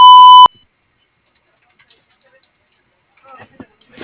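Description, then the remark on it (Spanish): A single loud, steady electronic beep marking the start of a voicemail recording lasts about half a second, with a clean tone and a higher harmonic, and cuts off abruptly into silence before faint voices begin. “Grabe su mensaje. Marque la tecla gato cuando termine.”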